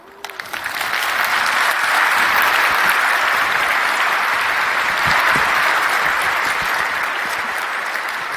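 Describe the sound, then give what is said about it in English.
An audience applauds at the end of a talk, before questions are taken, the applause rising within the first second, then holding as a steady, dense wash of clapping for several seconds, fading slightly near the end. “Wasn't necessary to encourage you to come with an applause.”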